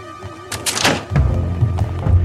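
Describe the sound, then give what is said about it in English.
A heavy door swings and bangs shut with a solid thud, followed by a low rumbling resonance and a faint metallic latch click, fairly loud with no voices. “The lock's on the catch. Open this door!”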